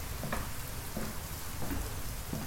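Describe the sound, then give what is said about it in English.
Steady hiss of rain with four slow, evenly spaced footsteps splashing through it, moderately quiet, with no voices. “The sound of footsteps in the rain.”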